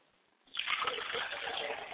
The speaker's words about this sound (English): I pour libations to the east, and I say, Ashe. I pour libations to the west, and I say, Ashe. I pour libations to the south, and I say, Ashe. And I pour libations to the north, and I say, Ashe.